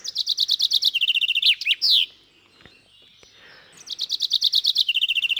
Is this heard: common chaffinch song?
yes